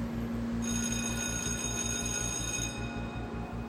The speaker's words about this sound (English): A bell rang, calling the first class of the day.